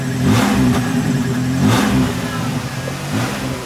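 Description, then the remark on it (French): A car engine revs up twice in a low, muffled roar, the exhaust sounding choked and dull, fairly loud with no one speaking. “C'est comme si le pot d'échappement était bouché.”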